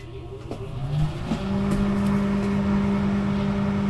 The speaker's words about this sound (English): I'm going to open the microwave. I'm going to flip one end of the popcorn open. Close the microwave. And I have dots on these buttons. I'm going to press start. And hit popcorn.